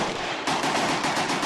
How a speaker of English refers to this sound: That's the sound of an AK, the Kalashnikov automatic assault rifle, commissioned by Joe Stalin.